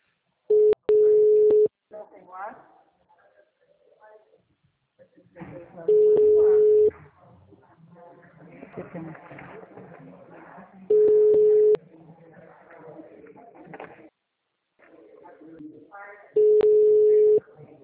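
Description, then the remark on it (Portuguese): A phone line rings out with four steady, single-pitched tones, each about a second long and spaced several seconds apart, while people talk quietly in the gaps between rings. “O telefone”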